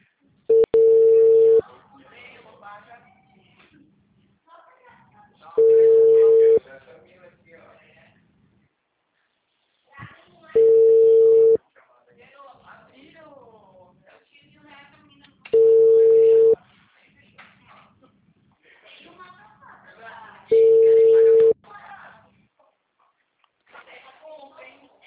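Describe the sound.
A ringback tone on an outgoing phone call: five steady, one-second beeps spaced about five seconds apart, with faint voices murmuring in the background between rings.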